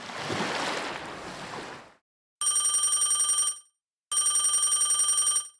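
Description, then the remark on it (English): A telephone rings twice, a call to the Tune Into Nature answering line, each loud, trilling ring lasting over a second with a short pause between, following a couple of seconds of broad rushing noise like surf. “Thanks for calling Tune Into Nature. Please leave your message after the beep.”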